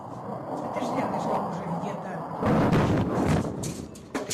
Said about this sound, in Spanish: Uno de los objetivos fue la universidad. Así sonaba esta mañana mientras se derrumbaba.